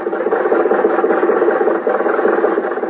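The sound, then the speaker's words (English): A car engine runs steadily, a continuous mid-pitched drone with a quick, faint rattling pulse throughout. No one speaks. It is Jack's car, carrying three people home from the races. “When the races were over, Jack, Dennis, and I were riding home in Jack's car.”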